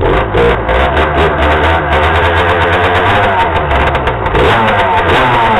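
A small moped engine runs steadily and loudly, its buzzing drone rising and falling slightly as it revs, with no voices over it.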